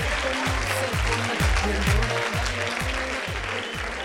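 A crowd applauds with dense, steady clapping that holds for about four seconds, while a regular low thumping beat pulses underneath throughout.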